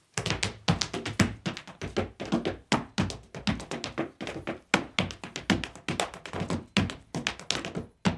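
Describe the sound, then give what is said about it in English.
Rapid, crisp footsteps of an Irish dancer tapping on a hard floor in a radio studio during The John Murray Show, a steady stream of sharp clicks and heavier heel thuds in quick rhythmic bursts, with no talking. “And who says we don't do any dancing on the radio these days?”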